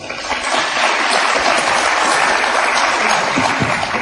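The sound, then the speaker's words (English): A crowd claps steadily for about four seconds, a dense, even wash of hand claps at fairly loud level with no talking over it. “Who believes that's the fiction? By applause.”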